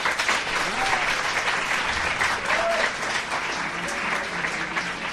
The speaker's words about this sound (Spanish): Un aplauso, que se note el público de verdad.